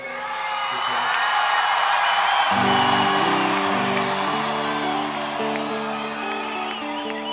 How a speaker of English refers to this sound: or you could stop screaming for just a sec.